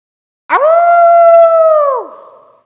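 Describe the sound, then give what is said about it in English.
A single long, loud howl, holding a steady pitch for about a second and a half before dropping off and fading, with no other sounds around it. “It took just about 2 minutes after that howl, and I begin to hear the rustling leaves and the jingle of metal hitting plastic.”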